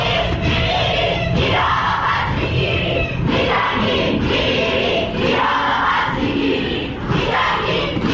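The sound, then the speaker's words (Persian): A large crowd of protesting Iranian university students, marking the victims of the Revolutionary Guards' missile strike on the Ukrainian airliner, chants loudly in unison, voices rising and falling in repeated rhythmic phrases roughly every second or two, with shouts mixed into the dense, continuous roar. “بنابر گزارش ها دانشجویان دانشگاه های تهران، بهشتی، خواجه نصیر، سوره، شریف و دانشگاه چمران احواز برای یادبود قربانیان شلیک موشک سپاه پاسداران به هواپیمای اوکراینی تظاهرات کردند.”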